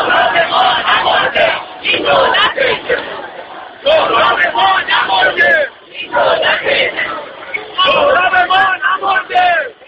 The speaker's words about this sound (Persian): مادر … جوانی که در اعتراضات پس از انتخابات کشته شد، در راهپیمایی روز گذشته در تهران شرکت کرد. راهپیمایان در گرداگرد مادر … با سر دادن شعارهایی علیه دولت فریاد می‌زدند که … نمرده است.